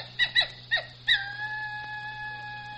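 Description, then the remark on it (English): Dingoes howling: three or four short, sharp yelps in quick succession, then one long, steady, mid-pitched howl that holds for well over a second. Fairly faint, with no talking. “Those dingoes, they sound like coyotes.”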